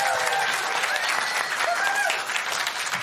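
An audience at New Hope church applauds new member families steadily, a dense, even wash of many hands clapping at a fairly loud level, with a few faint voices and whoops rising briefly through it.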